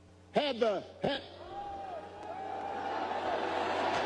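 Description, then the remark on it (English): A large crowd at a Barack Obama speech boos at the mention of J.D. Vance, starting with a few loud shouts and swelling into a sustained, drawn-out jeer that grows steadily louder. “Don't boo.”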